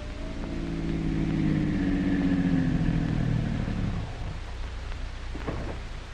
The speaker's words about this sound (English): The time is early evening, some weeks later. The scene, the street in front of Dr. Christian's office. His car pulls up to the curb.